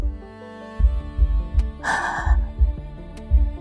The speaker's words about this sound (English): Gasp before the kiss.